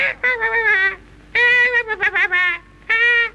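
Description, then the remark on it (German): Seagulls scream in three loud, harsh bursts, the middle one longest and broken into rapid yelping cries, with short pauses between them and no voices. “was schreien denn da die Möwen?”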